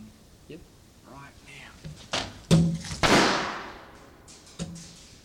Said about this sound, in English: Another bulb bomb. The bulb bomb which failed, which I'm just recording over now, is about to be squashed in a vault door instead, in the hinge.